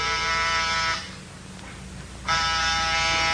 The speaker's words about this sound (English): Get off the buzzer. Lomax can't hear it. Door's locked.